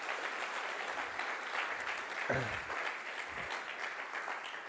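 An audience claps steadily for several seconds, a dense, continuous patter of many hands at even loudness, with a brief low murmur or shout rising partway through.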